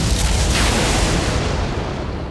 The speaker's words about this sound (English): A bolt of lightning tore the spotless sky, crashing down to Lynceus's raised spear.